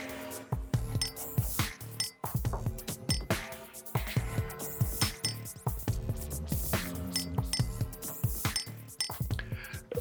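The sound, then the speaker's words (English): A cocktail glass holding a Copenhagen cocktail with lime clinks and knocks repeatedly as it is handled and picked up for tasting, a steady run of sharp bright taps and rattles with no talking. “Let me go back to the glass and see if I can get on board with what you're saying, but I'm not sure that I can.”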